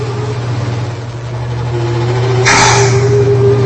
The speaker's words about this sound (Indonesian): mengganggu, seperti suara mendengung dan ya, membuatku tidak nyaman. Karena suara dengungannya itu seperti suara perempuan sedang menangis. Memang suara mesin kadang menimbulkan suara yang aneh.